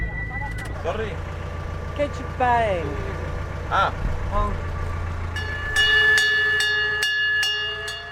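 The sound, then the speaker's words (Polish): A small train carrying a group equipped with hammers and bags up to the Val de Giove mine on the island of Elba rumbles steadily along with a low engine drone, punctuated by squealing wheel and rail tones and metallic screeches, ending in a series of sharp clanks and ringing tones. “A grupa zaopatrzona w młotki i torebki wyruszyła na górę do kopalni kolejką.”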